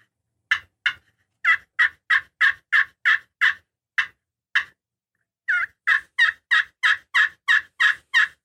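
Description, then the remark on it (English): A bigger, louder turkey call produces purring turkey sounds with deeper clucks: a steady string of sharp, loud notes in quick rhythm, pausing briefly partway through before resuming. No one speaks. “The purrs.”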